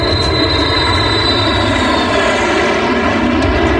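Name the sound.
airplane flying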